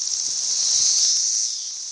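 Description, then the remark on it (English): A chorus of Brood II periodical cicadas on the east coast of the United States makes a steady, high-pitched buzzing drone that fills the whole clip without pause, swelling slightly in the middle and easing a little toward the end. “Any day now on the east coast of the United States, this sound will intensify to ear-splitting proportions as billions of cicadas emerge from the ground in a rare synchronized display of nature.”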